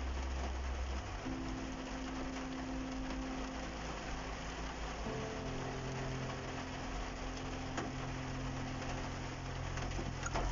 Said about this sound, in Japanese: 雨降ってきたな。また車の中なんで雨の音がめっちゃ入ってしまいますけど。